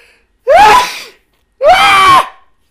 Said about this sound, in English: That wasn't really necessary, the scream, but I sneezed.